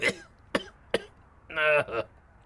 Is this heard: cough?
yes